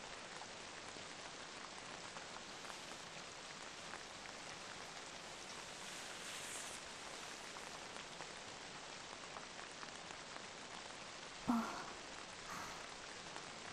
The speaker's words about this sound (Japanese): まだ雨足が強くなりそうじゃの。普段ならば気にもしなかったのじゃが、こうしておると雨の音以外にもいろいろ聞こえるものじゃな。